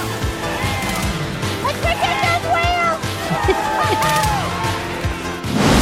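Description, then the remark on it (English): In a Kia commercial with actress Melissa McCarthy, water churns and sloshes steadily while wavering, squealing cries rise and fall above it, ending in a sudden loud splash and thud as a whale throws her up in the air against the side of a boat. “Threw her up in the air against the side of the boat.”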